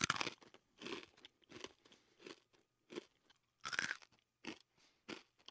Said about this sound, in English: A year later, we were all eating 3 protein cakes a day. There was nothing else. Salty, crunchy, and bland.